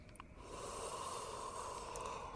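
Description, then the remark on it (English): A pale woman lying in bed unconsciously sniffs the air: a single long, breathy sniff through the nose, drawing in air steadily for about two seconds with no voices around it. “The mattress sags as the pale woman unconsciously sniffs the air and slides her arms around her boyfriend.”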